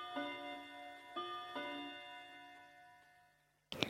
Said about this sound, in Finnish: Räisälän pariskunnan kaappikello tikittää näyttelytilassa opistoseurojen päättymiseen asti.